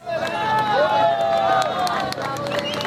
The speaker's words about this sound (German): Jubel bricht aus in Katia la Mar an der venezolanischen Küste